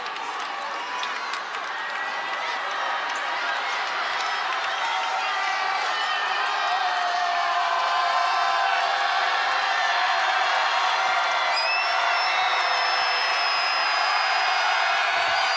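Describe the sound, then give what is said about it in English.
A crowd of CCA basketball fans roars loudly and steadily for the whole stretch during a game against Sergeant Bluff-Luton, a dense wash of cheering and shouting with occasional whoops and high-pitched yells rising above the din. “CCA fans get loud.”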